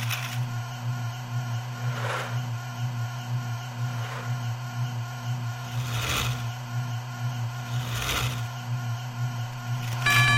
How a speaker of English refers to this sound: So that humming noise tells you that brakes are active, I believe.